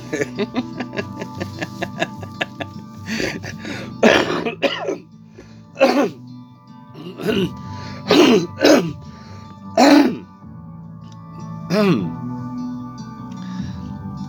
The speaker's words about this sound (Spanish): La tos es por el aire acondicionado. No, nada que ver. Cigarrillo, absolutamente nada que ver.